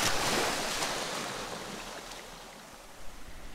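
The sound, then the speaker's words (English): Soft ocean water washes and laps around a person floating in the sea above a sandy bottom about 6 feet down, in a steady, hissing stream, swelling slightly at the start and again near the end, with no voices. “This beautiful sandy bottom about 6 feet beneath the boat. And the ocean just caressing me, just holding me up here.”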